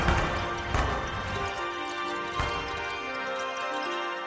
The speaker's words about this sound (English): So the brightness that we're hearing, for example, in the Chandra data, that's being converted into like these string light sounds. And the blast wave is being represented by sort of like a fireworks type of noise.